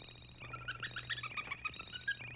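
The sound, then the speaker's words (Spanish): Bat echolocation calls from bats flying with their mouths open, sending their biosonar signals out through the mouth: a rapid, uneven string of short, high whistle-like chirps that swell and fade over a low steady hum, with no voices. “El sonido de estos murciélagos se parece a un chiflidito.”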